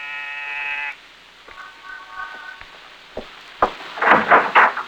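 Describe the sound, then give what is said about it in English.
An apartment door buzzer in the corridor of an apartment building in the East 70s of New York sounds one loud, steady electric buzz for about a second. A fainter tone follows, then scattered clicks and a few louder rattling knocks near the end. “On the afternoon of your arrival in New York, you walk down the corridor of an apartment building in the East 70s, pause, and press a buzzer.”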